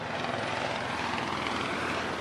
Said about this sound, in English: On a warm night in West Baltimore in early May, there were police cars on the streets and police helicopters in the air.